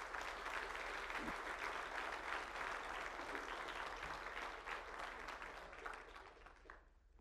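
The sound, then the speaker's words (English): An audience at Temple Baptist Church breaks into sustained applause as a clap offering to the Lord for military veterans, a dense wash of many hands clapping at steady volume for several seconds before thinning and fading out at the end. “I'd like us to take this moment to give the Lord a clap offering for that.”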